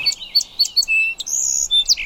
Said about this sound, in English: Do you hear that one over here that's going tweet, tweet, tweet before it starts the rest of its song? That's the song sparrow.